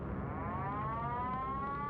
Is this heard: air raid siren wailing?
yes